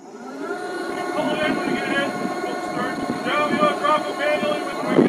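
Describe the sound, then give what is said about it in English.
During a safety drill on a windy afternoon in Lynn Canal, Alaska, PA instructions on the ferry Malaspina boom across an open deck, words unclear, over steady gusting wind and the low rumble of the ship's engine, as crew members in orange float coats lower rescue boats over the side. “Instructions blast over the PA system as crew members in orange float coats lower rescue boats over the side.”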